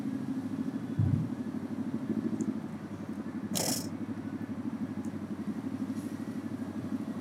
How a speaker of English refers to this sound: hang on, I'm gonna wait for this motorcycle.